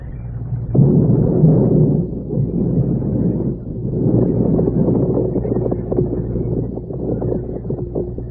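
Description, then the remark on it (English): An atom bomb set off in a jungle hut explodes with a sudden deep boom, then a long, loud, rolling rumble and roar that crackles on for several seconds without fading much. “We begin today's episode with last week's explosion.”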